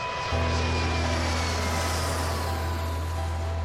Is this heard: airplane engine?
yes